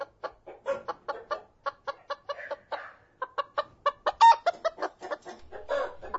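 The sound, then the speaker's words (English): Chickens cluck in a steady, rapid series of short calls, with a few longer, drawn-out squawks mixed in toward the end. No one speaks. “There we got our birds.”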